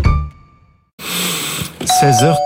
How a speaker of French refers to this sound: 16h44, on a sonné, je crois, à la porte. On va regarder qui sonne à la porte.